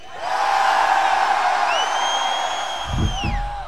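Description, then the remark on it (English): A huge crowd at a festival screams and cheers in a sustained roar, with individual high-pitched whoops and shrieks rising above the mass, then some low thumps near the end. “Scream!”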